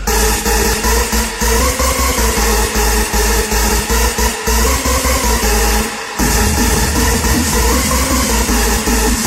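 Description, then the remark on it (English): A harsh, heavily digitally distorted sound roars at a constant, crushed loudness, with buzzing harmonics and a thick low rumble, broken only by a brief dropout about two-thirds through. “Here it is! Distortion.”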